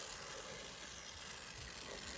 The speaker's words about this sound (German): Es brutzelt. Ich höre es. Ganz alleine.